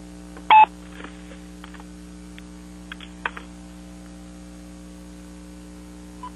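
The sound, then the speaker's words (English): A phone being switched over: one sharp keypad beep, then scattered soft clicks and handling knocks on a line under a steady electrical hum, with no one speaking. “But I just have to switch phones here for a second.”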